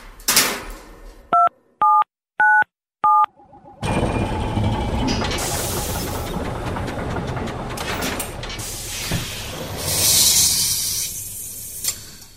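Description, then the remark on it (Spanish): Four short, evenly spaced keypad beeps, each a steady two-note electronic tone, sound alone before giving way to a loud, continuous rushing rumble. “Tengo pues, aquí el teclado, ¿preparado?”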